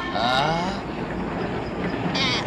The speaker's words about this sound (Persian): قطار؟ من فکر نمی کردم ژاپن هم قطار داشته باشه. حالا دیگه داره.